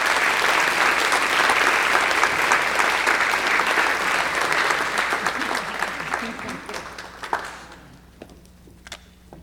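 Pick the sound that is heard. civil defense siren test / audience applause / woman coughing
audience applause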